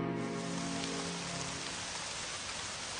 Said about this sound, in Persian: عجب بارون قشنگیه.